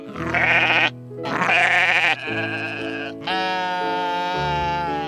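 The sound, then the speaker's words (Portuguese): A billy goat bleats loudly in a quick series of four wavering, drawn-out cries, the last one longest, with no talking around them. “Então, o bode animado responde: eu quero!”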